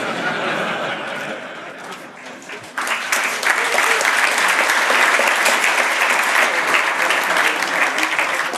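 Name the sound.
audience clapping hands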